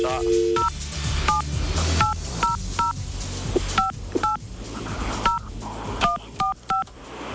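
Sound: telephone number being dialed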